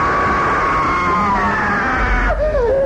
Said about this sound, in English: Your screams ain't gonna save your flesh.